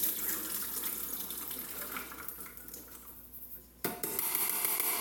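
The contents of a large jar of peas pour into the large carafe of a kitchen robot in a steady splashing stream that thins toward the end, then a sudden sharper burst of sound, with no talking.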